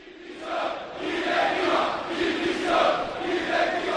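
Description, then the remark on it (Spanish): A large crowd of Valencia football fans at the Mestalla stadium chants protests in unison after a 0-5 defeat, against Peter Lim and the club board: loud rhythmic swells of massed voices rising and falling in repeated phrases, with no individual speech standing out. “Diles que se vayan, jugadores mercenarios, cánticos contra Peter Lim, contra Lee Jun y contra Miguel Ángel Corona, y ahora contra la directiva.”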